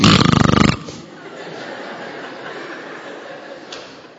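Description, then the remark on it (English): A voice mimics a loud, rattling snore in one short burst lasting under a second, then it drops away to a quieter, faintly murmuring background. “I want to snore with you.”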